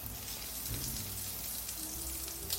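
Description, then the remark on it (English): Croquettes fry in sizzling oil in a pan, a steady dense crackle and hiss that runs without pause, with a faint low hum underneath and no voices. “So before the break, we place our croquettes into our pan with the sizzling oil.”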